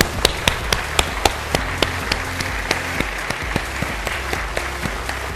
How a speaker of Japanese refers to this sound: じゃあ皆さん、先ほどの拍手でお願いします。